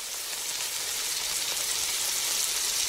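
Steady, crackling sizzle of food frying in a hot pan, continuous for a few seconds with no voices, a dense hiss of popping fat throughout.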